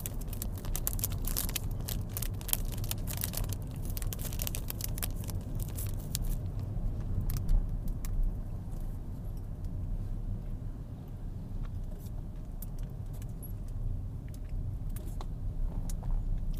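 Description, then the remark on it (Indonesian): Crinkly plastic wrapper rustling in quick, irregular bursts as someone eats in a moving car, busiest in the first half, over the steady low rumble of the car's interior. No one speaks. “Dan yang sekarang kalian mendengarkan orang lagi makan di mobil, kerasa kerusuk suara plastik.”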